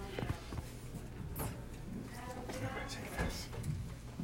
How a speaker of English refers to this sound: So, I'm going to walk us through a small process, and now I'm going to open up my box of medication.